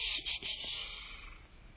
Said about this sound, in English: The rubber tongue of the green leaper. Frogs? On the edge of the desert?